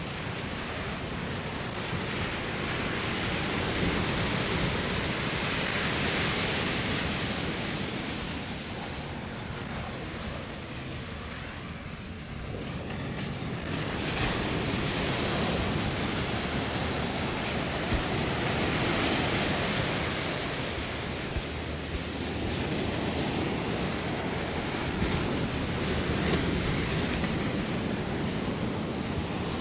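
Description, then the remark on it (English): Steady roar of surf with waves washing in and breaking on a beach in slow swells, a brief lull around the middle, all mixed with wind rumble. No voices. “Dogs out to play on the beach.”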